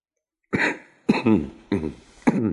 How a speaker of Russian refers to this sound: Странно. Почему мне так знаком этот кашель? Почему? Да ведь это она сама так кашляла, когда ей бывало грустно.